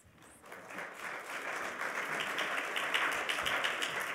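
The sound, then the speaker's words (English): A crowd breaks into applause, dense clapping that swells within the first half second and holds steady and full for several seconds, with no voices over it. “I'm not sure the applause is deserved, so we can talk about that later.”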